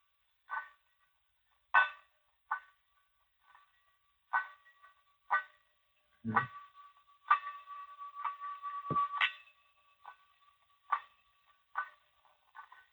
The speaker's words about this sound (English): Okay, the same thing can be accomplished with a wet finger on a crystal glass.